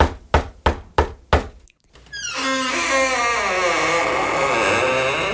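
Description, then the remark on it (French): Five sharp, evenly spaced knocks on a door ring out in quick succession, then a brief pause gives way to a loud, sustained, wavering tonal sound that continues to the end. “Dimanche, pendant qu'elle se reposait sur son canapé, une autre personne toqua à la porte.”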